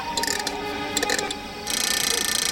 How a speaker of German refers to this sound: Mit einem Schlüssel zieht Rasmus seine Kanone auf